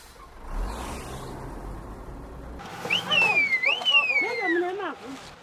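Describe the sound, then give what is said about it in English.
At 6 a.m. in Warren Park, a low-income residential area of Harare, Zimbabwe, a refuse truck's engine rumbles low at first, then shrill, wavering whistles or calls from the all-female collection crew in orange work suits ring out over the street noise. “An all-female refuse collection team is at work in the neighborhood.”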